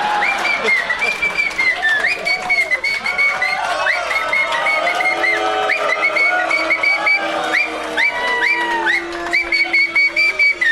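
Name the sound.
audience booing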